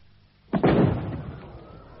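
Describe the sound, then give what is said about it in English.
A single firework bursts in the evening with a sudden, loud boom, then a rumbling echo fades away over about a second, with no voices around it. “Fireworks to lighten our evening.”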